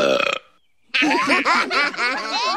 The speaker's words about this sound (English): Yeah, well, I won the belching contest at work.